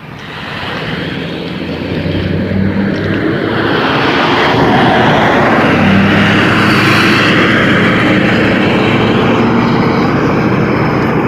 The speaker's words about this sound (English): noisy truck coming up behind me here. All right, we crossed the road before he's at this intersection, so that's okay.